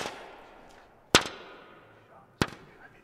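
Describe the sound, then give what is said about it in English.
Two sharp, loud pops of a simple piece of paper snapped taut, about a second and a quarter apart, each a crisp burst that fades quickly. “Pop sound.”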